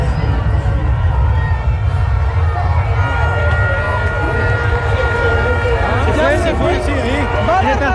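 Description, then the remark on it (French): A steady, loud engine roar of an airplane taking off, beneath the constant chatter and calls of a large crowd of onlookers, some standing on motorcycles and on shoulders, with many hands raised. “L'avion s'envole.”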